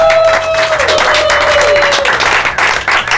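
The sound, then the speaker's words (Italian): Teenagers at Dinamo Camp, during a live radiodinamo.it broadcast, burst into steady, dense applause for themselves that fills the whole three seconds, many hands clapping together at a constant loudness while a thin sustained tone glides slightly downward over it early on. “Perché lo siete stati, fatevi un applauso.”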